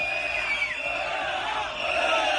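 A dense crowd of protesters at a union-called rally on a street in Madrid at midday shouts and yells together, a loud, continuous wall of overlapping voices with a few higher cries rising above the din.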